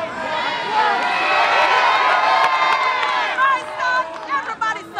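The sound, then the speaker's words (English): A large protest crowd at the 47th precinct, protesting a shooting, cheers and shouts together in a loud, sustained roar of many voices, swelling for several seconds before breaking into scattered individual shouts near the end. “balanced on the shoulders of other protesters, tells the crowd the shooting is about their brothers as well.”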